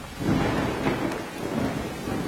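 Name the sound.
thunder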